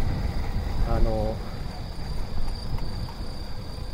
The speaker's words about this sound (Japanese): 今僕が通ってる犬神川といって、すごい虫の音がするんですよ。虫の声がね。でこれをちょっと聞きに来たんですけどね、今日風ちょっときついからバフバフ言うてるかな。